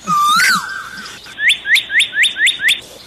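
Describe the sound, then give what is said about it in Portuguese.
Canaries sing, starting with a bright warbling trill, then a run of six quick, evenly spaced rising chirps, loud and clear with no voices. “Canário é passarinho. Isso. Então os colegas vão cantar para ele agora.”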